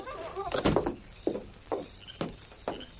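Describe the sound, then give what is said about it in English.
A wooden door that opens to the outside is worked open and shut, giving a series of hollow thumps and knocks spaced about half a second apart, after a brief murmur of voice at the start. “Right out this door. It's open to the outside.”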